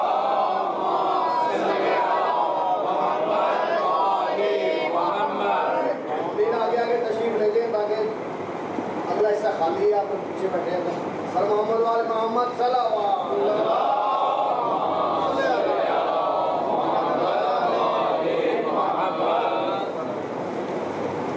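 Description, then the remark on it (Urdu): A large crowd at a majlis recites salawat aloud in unison, a dense, steady wash of many voices chanting together with rising and falling melodic phrases for about twenty seconds. “صلوات پڑھ لیجئے گا بلند آواز.”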